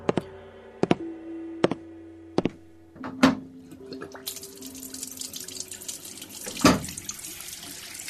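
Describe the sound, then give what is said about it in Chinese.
A few sharp knocks and clinks, then a tap opens and water gushes steadily into a sink for washing the face and brushing teeth, with another clatter near the end; no one speaks. “赶紧去洗脸刷牙吧。”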